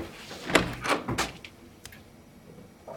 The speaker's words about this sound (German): Der kleine Dusch- und Toilettenraum hat noch eine Staukammer. Er öffnet deren Tür und schaut hinein.